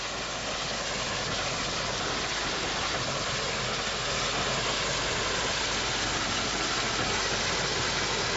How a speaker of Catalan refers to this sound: Ara anem en marxa. Anem en marxa amb el... Vinga. Vinga. Continuem amb la marxa del tren.